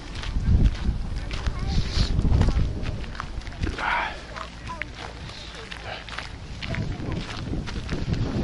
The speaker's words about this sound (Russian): Но ветер настолько сильный, что может так, можно почувствовать сильнее, слабее, не знаю.